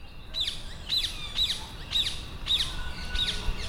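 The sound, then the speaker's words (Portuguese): A green rose-ringed parakeet with a black collar and red bill gives a steady series of six shrill, squawking calls, evenly spaced about half a second apart, over faint low background rumble. “Esta ave verde, de colar preto e bico vermelho, não ocorre naturalmente no nosso país.”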